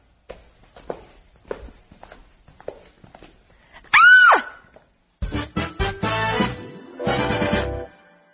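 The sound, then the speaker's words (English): Several slow footsteps, then a woman lets out one sharp, loud, high-pitched scream that rises and falls, followed by a burst of loud, chaotic clattering and commotion. “why did … scream?”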